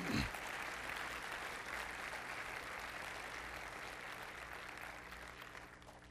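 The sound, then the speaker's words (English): An audience claps together as a clap offering unto the Lord, in sustained, dense applause, a steady wash of many hands that holds at an even level for several seconds before easing slightly at the end. “Let's give them a clap offering unto the Lord.”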